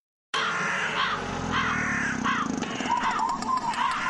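Several crows caw loudly, their harsh calls overlapping in a steady, busy stream that starts abruptly after a brief silence and continues throughout, in a radio advert for the play Godine vrana at the National Theatre in Belgrade.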